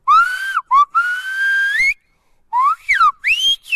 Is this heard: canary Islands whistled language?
yes